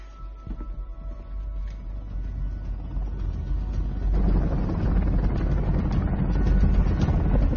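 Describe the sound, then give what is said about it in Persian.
A helicopter climbing high toward the clouds roars steadily, its deep engine and rotor rumble thickening and growing louder partway through, with wind-like noise and no voices. “هیچ کس تا حالا یه هلیکوپتر رو تا این حد بالا نبرده.”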